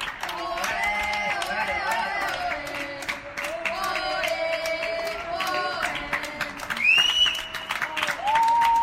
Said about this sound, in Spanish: El abrazo es el aplauso colectivo a las 8 de la noche.